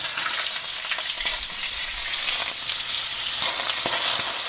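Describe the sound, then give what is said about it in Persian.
Steady, loud sizzling of food frying in a hot pan, a dense crackling hiss that continues throughout with occasional sharper pops and no voices. “این صدای سرخ کردن غذا احتمالاً آنزیم‌های گوارشی شما را فعال می‌کند و شاید با شنیدن آن هوس یک نیمروی لذیذ بکنید.”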